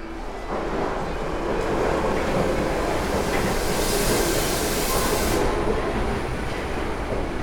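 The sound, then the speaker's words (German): A U-Bahn subway train roars out of a tunnel into a station, a loud, sustained rumble of wheels on rails with a rising hiss and faint squeal as it rushes by; no voices. “Mit was für einer Wucht der Zug aus dem Tunnel in die Station brettert.”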